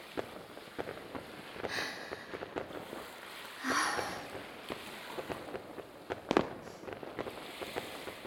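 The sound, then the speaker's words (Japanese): Fireworks burst and crackle over the seaside beach, a steady string of sharp pops with a few louder bangs and brief whistling rises, over a constant wash of wind or surf. “海辺で花火を見るなんて。”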